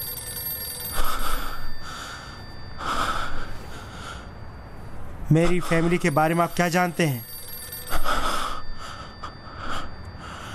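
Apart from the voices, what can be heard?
telephone ringing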